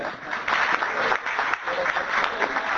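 Steady audience applause, a dense wash of many hands clapping at an even, fairly loud level throughout, with no voices standing out over it.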